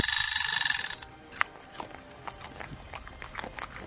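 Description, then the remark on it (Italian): A loud, harsh telephone ring sounds for about one second, a continuous metallic bell-like jangle that cuts off abruptly, leaving faint scattered clicks and light rustling. “A questo punto a Sherlock non rimane che alzare il telefono.”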